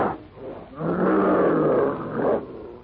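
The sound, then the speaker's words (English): A single loud, sustained beastly roar of a prehistoric ape monster challenging Tarzan rises after a brief growl, holding strong for over a second before trailing off, menacing with no talking. “Swinging forward clumsily but swiftly, the hideous features contorted with black rage, the brute roars out his challenge.”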